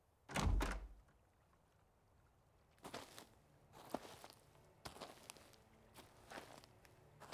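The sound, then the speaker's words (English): A heavy door thunks open, followed by a series of soft, uneven footsteps moving across the floor. “Let me get the door for you.”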